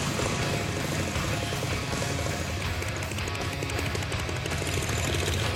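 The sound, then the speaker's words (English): A newly finished custom motorcycle at Counts Customs is fired up and brought out; its engine roars steadily at high volume, the exhaust chattering in rapid, rough low-pitched pulses for several seconds with no voices over it. “Fire that up and bring it out.”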